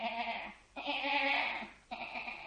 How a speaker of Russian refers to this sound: Глядь, баран бредет. Рога крутые, копыты тонкие.